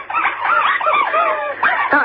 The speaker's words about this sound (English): Okay, and, okay, well, let's hear the dog enjoying the rubber false teeth, can we? Schubert, come here. Schubert. Okay, here we go.